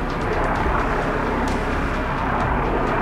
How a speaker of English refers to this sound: And that's exactly what he did, as a military helicopter hovered overhead.